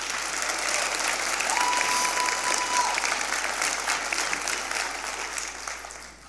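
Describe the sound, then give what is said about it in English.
Sustained applause from a large audience, a dense steady clapping that holds strong for several seconds before beginning to taper off near the end. “It's like, and that is worth one more round of applause.”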